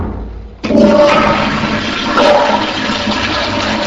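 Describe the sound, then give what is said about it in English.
A toilet flushes with a sudden loud rush of water that starts abruptly and keeps roaring and gurgling steadily, with no voices. “38,325, and that's gallons per year of water that get flushed down the toilet per year for a family of five, which is a lot of water, you know?”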